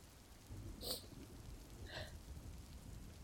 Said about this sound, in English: And all this fucking rain is just making this harder.